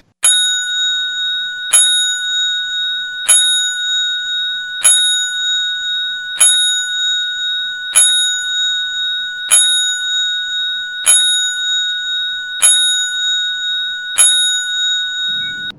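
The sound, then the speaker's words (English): A bright, ringing bell struck ten times at a steady pace, each loud clang sustaining and overlapping into the next, with no voices present. “It's getting to be a regular thing, those 10 bells.”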